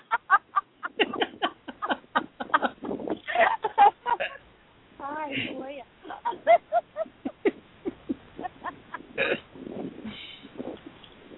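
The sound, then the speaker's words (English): A flock of birds crowds around, calling in a steady flurry of short, rapid clucks and chirps with a few warbling cries mixed in, loud throughout, as they wait for more food such as old bagel scraps. “So now it's me and the bird.”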